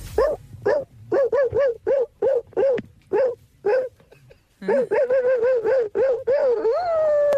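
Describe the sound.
A man imitates a dog, letting out a rapid string of short, sharp barks in quick rhythm, then a run of yappier barks ending in a drawn-out howl, loud.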